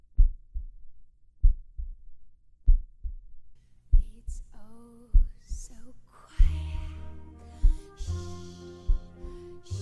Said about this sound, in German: Denn selbst wenn es vermeintlich still ist, hören wir da nicht trotzdem etwas? Unseren eigenen Herzschlag? Das Blut, das in unseren Adern pulsiert?